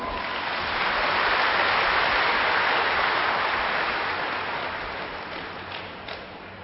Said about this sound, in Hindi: ताली तो बजाओ।